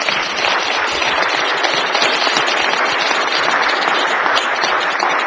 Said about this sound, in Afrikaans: Ja, gee vir die Here hande klap.